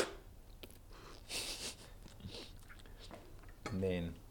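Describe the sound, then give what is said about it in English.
A quick, airy slurp of coffee from a clean spoon, scooped from a white cup during a coffee tasting: a short hissing burst about half a second long, followed by soft clicks and a brief voiced murmur at the end. “He dips a clean spoon in the cup, scoops up the coffee, and quickly slurps it down.”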